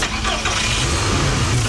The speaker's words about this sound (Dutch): Ja, en daar wordt de rode auto van je opa gestart om naar Luxemburg te gaan.